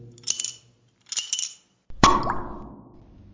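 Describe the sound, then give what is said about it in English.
A bottle of Chateau Marcon Grand Vin wine being opened: two short scraping, rustling bursts, then a sharp glassy clink that rings out and fades, with no talking. “Let me open and...”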